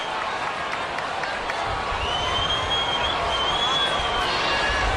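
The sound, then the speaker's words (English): A baseball stadium crowd at Oracle Park cheers in the bottom of the second inning, a steady, loud roar of many voices for the full five seconds, with a thin rising whistle cutting through midway. “And the crowd here at Oracle Park can sense it as well.”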